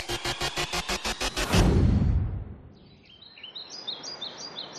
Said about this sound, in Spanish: aquí nos encontramos arena blanca, arbustos, sí, muchísimas aves de fondo. Fíjate cómo, sí, cómo vuela, wow, esa que pasa por delante, esa garza. Sí, sí. Estamos, ¿dónde estamos? En Doñana.